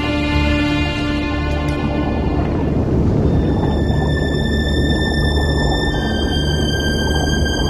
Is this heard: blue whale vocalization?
yes